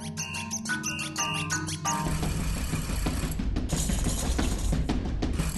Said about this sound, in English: you can get all these different sounds just from a squeaky toy